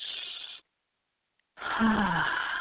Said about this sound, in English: And let's have you take a breath. But this is a non-LA Hollywood perfect breath. I want your stomach to go out. We want to just really fill up our lungs.